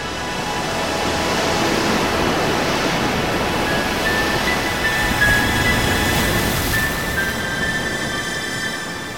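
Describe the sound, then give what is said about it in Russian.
Sea waves crash against rocks in a steady, loud roar of surf, the rushing wash continuing without pause for several seconds, with no voices present. “Волны разбивались о камни, взрывались фонтанами белой пены.”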